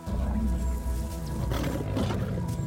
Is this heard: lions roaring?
yes